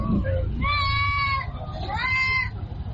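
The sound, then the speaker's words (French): Outdoor ambience at Garbal, the livestock market of Bobo-Dioulasso, ahead of Tabaski, with two long, wavering sheep bleats rising above a steady crowd murmur and low background noise. “Nous sommes à Garbal, le marché du bétail de Bobo-Dioulasso.”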